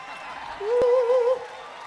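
An audience gives a round of applause for a performer on stage, a steady, crackling wash for about two seconds, while a sustained whistle cuts through the middle of it for under a second.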